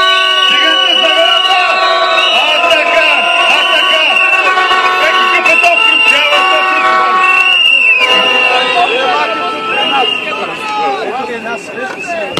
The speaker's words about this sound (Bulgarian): Колеги миньори, айде нека аплодисменти, къде са тук?